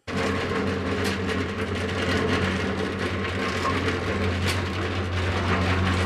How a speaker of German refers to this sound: Wo sind wir hier gelandet? Das wirkt wie Baustelle. Sechs Betonmischer, die in Intervallen mit ihren mahlenden Geräuschen den Raum erfüllen.